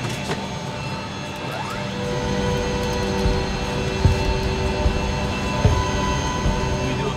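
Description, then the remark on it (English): An air tanker's auxiliary power unit starting up at a firefighting base, its whine climbing in pitch before settling into a loud, steady mechanical roar with layered tones and a couple of sharp clunks near the end. “I'll crank up the APU. Okay, so I'm gonna crank up.”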